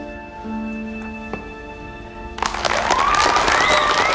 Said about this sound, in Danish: Og de klapper alle sammen.